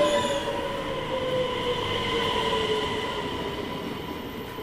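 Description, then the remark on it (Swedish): A Västtåg commuter train bound for Göteborg pulls into the platform at track 2, wheels squealing in sustained high tones over a steady rumbling roar that slowly eases as it slows. Loud, with no voices. “Västtåg mot Göteborg med avgångstid 12.23 inkommer strax till spår 2.”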